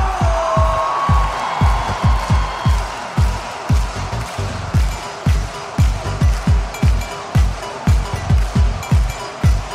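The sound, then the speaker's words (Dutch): A loud crowd cheers and applauds for a performer being introduced on stage, over a steady, pounding bass beat, with a brief whistle near the start and the noise staying dense throughout. “Dames en heren, mag ik één waanzinnig applaus voor de enige echte”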